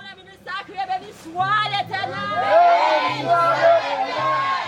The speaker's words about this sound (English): She paces back and forth in front of the congregation, microphone in her hand, leaning back, giving it everything. The entire congregation is calling out, clapping, laughing, crying, giving praise.